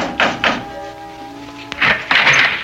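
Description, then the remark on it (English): Two firm, evenly spaced knocks on the door of the Adams house at dusk, followed by a low sustained tone, a sharp click and a rush of softer noise. “dusk was beginning to fall when, exhausted, famished, and dirty from the road, I knocked on the door of the Adams house.”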